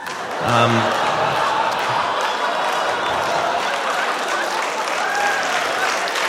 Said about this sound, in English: Oh, yes. A nice gentle applause break for child rape. For the implications of it.